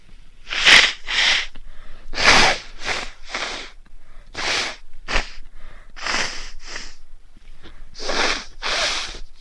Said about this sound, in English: Feel more coming. This is starting to get real messy. Gotta blow my nose again.